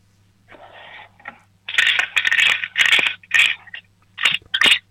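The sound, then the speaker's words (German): Coins rattle inside a shaken piggy bank in a quick run of bright, jangly bursts, starting with a softer shake and then building into five or six loud, rhythmic shakes with no talking. “Dann laufst du jetzt mal in dein Zimmer und holst dir eine Spartbüchse, weil wir würden gerne wissen, wie viel du schon gespart hast. Schüttel sie mal für uns.”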